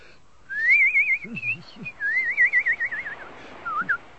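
A person whistles a wavering, trilling concerto melody in two long phrases and a short final note while strolling along a cliff in the evening, with mist rising from the channel; clear, with faint low background rumble and no speech.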